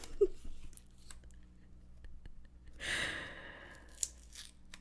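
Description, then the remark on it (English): A burst of rough, ripping paper noise swells for about a second as stuck-together cards from an old, worn deck are pulled apart and torn, followed by a sharp crisp snap and quieter rustling. “Sorry for the, like, paper gore that you're hearing.”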